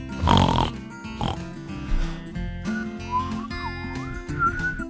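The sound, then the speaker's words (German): A pig squeals and snorts in loud bursts near the start, followed by a series of wavering, sliding whistles over a steady background tone. “Ja, mein Schwein pfeift.”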